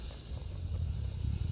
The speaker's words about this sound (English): And want to imagine that your abdomen is like a big balloon. And when we're going to take a nice deep breath in, it'll expand. And when you exhale, it contracts. So let's go ahead and do this. A deep breath in.